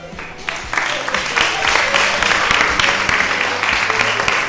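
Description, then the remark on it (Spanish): Steady applause from an audience welcoming four guests from the School Council and Students' Association of a secondary school (IES), a dense wash of many hands clapping at an even loudness for several seconds, with occasional sharper individual claps standing out. “Un fuerte aplauso.”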